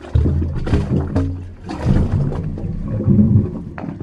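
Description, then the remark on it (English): Low, hollow gurgling tones swell and fade irregularly as water surges through the pipes of a wave organ, with sloshing and a few faint higher whistling notes, steady and moderately loud with no talking. “High tide is an awesome time to come, because the more water there is in the pipes, the louder the sound is.”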